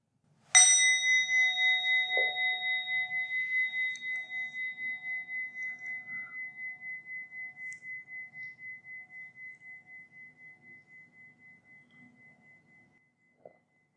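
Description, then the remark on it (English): A single meditation bell is struck once to start a meditation practice and rings out clearly, its bright tone shimmering and slowly fading over more than ten seconds, with a faint tap near the end and no one speaking. “So if you sit comfortably now to do the practice will start after the bell.”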